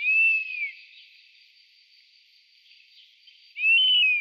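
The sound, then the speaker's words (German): Two drawn-out, plaintive whistled calls of a European honey buzzard, one at the start and one near the end, separated by a quiet stretch with faint high background hiss. “Ja, und damit hören wir uns nochmal den Wespenbussard an.”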